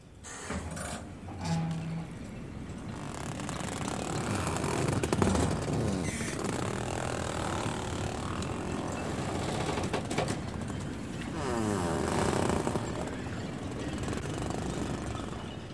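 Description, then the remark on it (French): A busy, continuous dockside ambience on a wooden pontoon, with steady washing noise, occasional knocks and creaks, and birds cooing and flapping; no one speaks. “Le ponton.”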